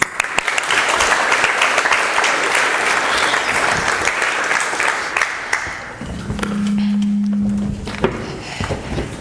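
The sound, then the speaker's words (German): A crowd applauds the VOG loudly with dense, steady clapping that gradually thins out toward the end, while a brief low hum appears near the finish. “Also Applaus für das VOG.”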